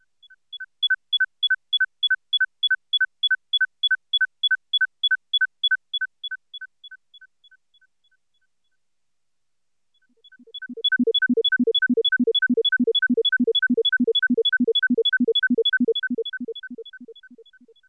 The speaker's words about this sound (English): the silence is replaced by two more tones. Try to hear the standard cycle as part of the comparison cycle. In the first example, the added tones are much lower than the first two, making it easy to hear the standard. The example is played twice.